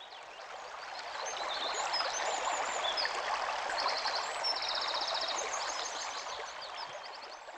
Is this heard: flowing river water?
yes